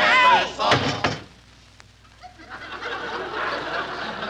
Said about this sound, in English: slam down the lid.